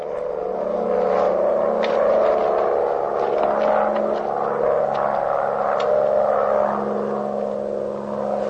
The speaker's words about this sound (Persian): جناب سرهنگ سوار هواپیما میشه. هواپیما به راه میفته. هواپیما بر فراز منطقه.